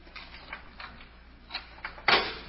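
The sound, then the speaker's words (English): A door lock being worked open: a series of small metallic clicks and scrapes at an uneven pace, ending in a louder, sharper clack as the mechanism gives. No one speaks. “Now, both of you boys keep quiet while I work on this door.”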